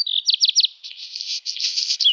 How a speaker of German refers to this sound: Das ist der Vogel des Jahres 2025. Der Hausrotschwanz, ein recht verbreiteter Vogel bei uns in den Siedlungen, kommt auch in die Gärten